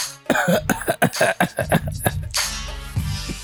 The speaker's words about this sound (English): Sorry to cough in your ears, folks.